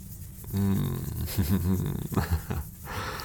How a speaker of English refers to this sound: How about I scratch you under the chin here and I stroke your hair at the same time? Purr for me, kitty. Show me how much you love it.